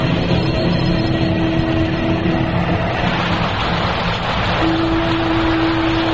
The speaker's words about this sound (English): Dear Helena, it's raining today. Raining hard. And I can't tell you how happy we were to feel those first few drops.